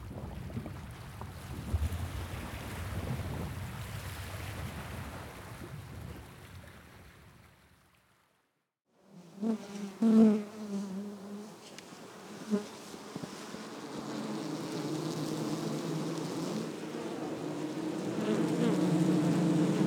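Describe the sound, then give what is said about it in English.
A steady hum of buzzing bees of the Harmony Garden, from a soundscape recording by Weiss and Riley, dense and continuous, with a brief lull in the middle before the droning swells back, layered, with no voices. “Before we begin the interview, we will play a soundscape from the soundtrack by Weiss and Riley that is a recording of the Harmony Garden Bees.”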